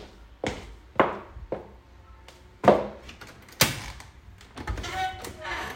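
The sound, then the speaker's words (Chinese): Several loud, sharp knocks on a door in an uneven pattern, a quick triple rap followed by a couple of heavier thumps, with a faint creak and a brief voice near the end. “来了来了，别敲了。”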